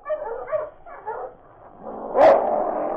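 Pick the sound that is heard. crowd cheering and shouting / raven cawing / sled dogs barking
sled dogs barking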